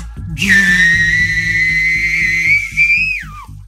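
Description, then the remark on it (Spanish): A person's loud, turbine-like whistle holds a steady shrill high-pitched tone for about three seconds, rises slightly, then drops away at the end, like a jet turbine spinning down. “Mira, voy a usar el sonido que llevo mucho sin recurrir a él, pero era muy bueno, como mi chiflido tipo turbina.”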